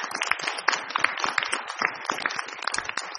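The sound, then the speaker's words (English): An audience applauds a staff member who has worked 34 years in the job, a dense crackle of many hands clapping at once that keeps an even level for a few seconds without any voices breaking through. “That deserves a round of applause right there.”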